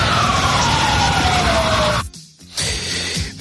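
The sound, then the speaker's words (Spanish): An ambulance siren wails with one long downward sweep over loud, dense street noise as ambulances arrive after the 1987 ETA bombing of the Hipercor store in Barcelona; the sound briefly cuts out, then the noisy background returns. “Vamos a escuchar el momento desgarrador cuando llegaban las ambulancias.”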